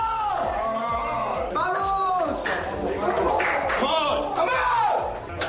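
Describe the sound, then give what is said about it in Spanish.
Spain's under-21 football players shouting and cheering together in loud, rowdy celebration after beating France 4-1 in the semifinal, with overlapping whoops and yells and some clapping, sustained throughout. “Eran los gritos de los españoles después de haber ganado 4-1 al equipo francés.”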